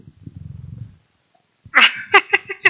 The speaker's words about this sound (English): Just to give you some context, my cat has decided to sit on laps and purr very loudly. So if you hear that through the audio, that's why.